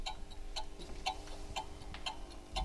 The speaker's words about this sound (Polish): To jest chronometr służący do nadawania sygnału czasu. Mianowicie słyszymy tykanie wskazówek zegara.